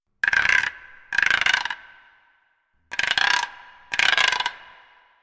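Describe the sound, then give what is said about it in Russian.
A large stork standing on a shore clatters its long, sharp beak in four rapid, rattling bursts, each about half a second of dry wooden knocking with a short ringing tail, separated by brief pauses. No voices. “На берегу стоял большой аист и стучал длинным острым клювом.”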